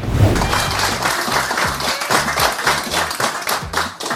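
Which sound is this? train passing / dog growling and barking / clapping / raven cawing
clapping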